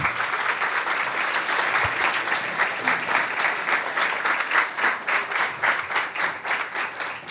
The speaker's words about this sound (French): Est-ce que tu veux bien nous rejoindre, Débo, s'il te plaît ? On applaudit Débo.